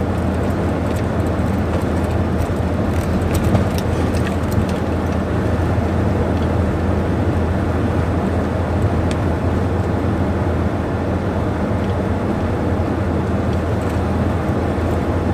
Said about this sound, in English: Yeah, sitting in the car, admiring the fucking the air conditioning,